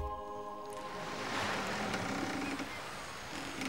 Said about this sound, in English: Good grief. What now? A boat?